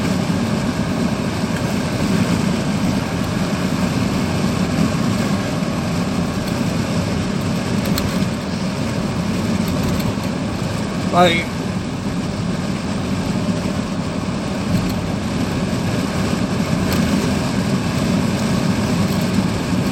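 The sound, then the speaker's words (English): A car engine idles steadily for the whole stretch, a constant low rumbling hum, with a brief high squeak or chirp cutting through near the middle. “Time to service the car, I guess.”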